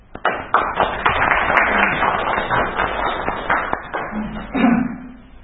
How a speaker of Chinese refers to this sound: 他们这个掌声很多呀。